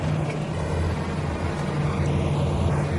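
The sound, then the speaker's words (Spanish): A steady engine drone with a low hum and constant road rumble as a truck drives along a road with a car following closely behind, continuous with no voices. “Circula por carretera colocando a mano el espejo retrovisor de su puerta. El coche de Bert lo sigue de cerca.”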